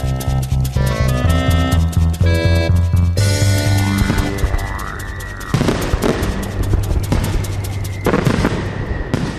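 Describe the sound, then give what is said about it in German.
Music plays while fireworks go off: rising whistles of rockets are followed by sharp crackling bursts and loud pops, repeating over several seconds with no talking. “Das ist kein Gewitter, sondern nur ein Feuerwerk.”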